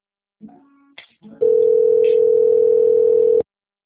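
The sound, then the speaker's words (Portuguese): A telephone dial tone: a steady, loud, unbroken hum at one mid-low pitch that holds for about two seconds and then cuts off abruptly, preceded by a few brief clicks and short tones. “Peraí, escuta aí, Lu, no telefone.”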